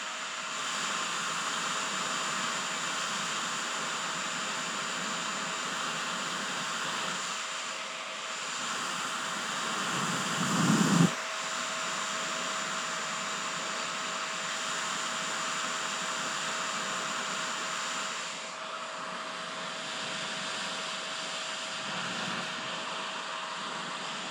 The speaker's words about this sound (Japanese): お風呂上がりとか髪の毛が濡れたりしたらドライヤーをかけてあげんと、濡れとるままやとダメばい。